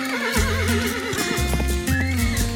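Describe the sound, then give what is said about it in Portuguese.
A horse whinnies loudly, its shrill, quavering neigh wobbling up and down for a couple of seconds before trailing off in a few snorting, breathy bursts. “No entanto, o cavalo não desapareceu, como é óbvio, e hoje merece toda a nossa atenção.”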